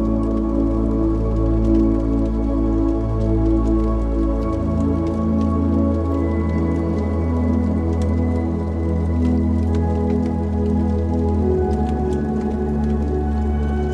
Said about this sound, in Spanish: Escuchando el crepitar de la leña.